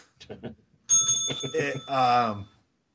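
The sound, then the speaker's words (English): A bright bell rings out loudly, its clear metallic tone sustaining for over a second and a half. A short burst of voice comes just before it, and a voice seems to overlap near the end. “And in my opinion, you know, I'll play with Nikki, but you know, ring the bell for that.”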